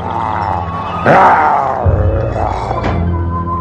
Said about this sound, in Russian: Лев заглянул в колодец и, увидев свое отражение, громко зарычал.